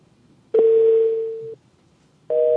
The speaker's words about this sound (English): This sounds like a Butkus ring. That's a weird phone ring.